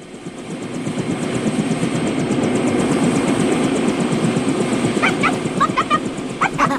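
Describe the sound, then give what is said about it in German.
A helicopter in flight with a dog aboard, its steady loud roar carrying a fast rhythmic rotor chop, with a few short high yelps or whines breaking through near the end. “das gefällt dir, so Helikopterflüge.”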